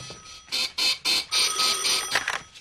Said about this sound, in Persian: تلفن قرمز زنگ میزنه. او تلفن قرمز است؟